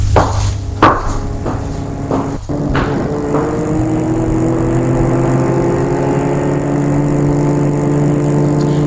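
A few sharp knocks and thuds, then a car engine hums steadily and rises gently in pitch as the vehicle drives off, fairly loud with no voices.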